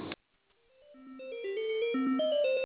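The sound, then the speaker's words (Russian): A melodic electronic ringtone plays over a phone line while the call is being transferred to a call centre, its tinny notes stepping up and down and swelling steadily louder for a couple of seconds before cutting off abruptly. “Одну минуту, я вас на колл-центр переведу, оставайтесь на линии, не мы просто этим занимаемся, вы там уточните за заказ.”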